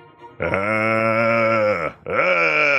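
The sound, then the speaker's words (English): A voice lets out a loud, drawn-out zombie-like groan of "brains", then a brief pause and a second groan that starts low and rises in pitch. No other talking. “did I hear you growling brains?”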